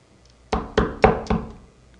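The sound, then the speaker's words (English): Four sharp, evenly spaced, loud knocks on a door, each with a brief resonant ring that fades into a quiet background with no voices. “There's a big, loud knock on your door.”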